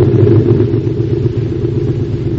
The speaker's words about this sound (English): And with the last burst, the engines go slowly dwindling away until the air screws are stopping.